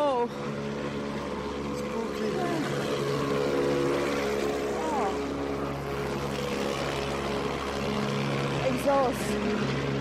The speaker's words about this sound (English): More taxis and buses.